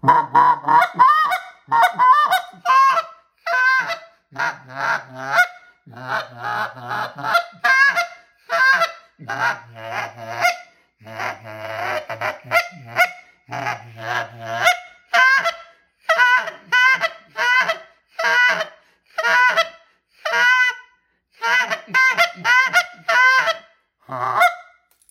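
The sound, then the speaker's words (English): A goose call blown for goose hunting in a steady series of short honking murmurs and low moans, repeated rhythmically for the whole stretch with no talking. “I'm just going to give them a little murmur, a moan.”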